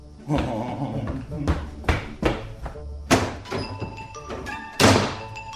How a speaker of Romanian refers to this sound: Pereții s-au zguduit și geamurile au zângănit când vizitatorul meu s-a repezit la ușă, a ieșit și a trântit-o cu forță.